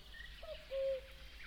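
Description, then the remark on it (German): An owl hoots twice, a brief note followed by a longer, steady hoot, against a quiet background hum. “Na toll, jetzt ist die Eule weg.”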